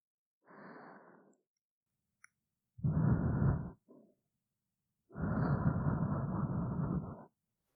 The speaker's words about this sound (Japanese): こちらも吐息の確認しましょうか。